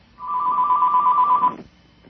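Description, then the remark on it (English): A telephone rings once in a single sustained burst of rapid, warbling electronic trill, fairly loud, lasting over a second before cutting off into quiet. “That phone's going to get you”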